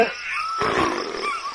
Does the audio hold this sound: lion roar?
yes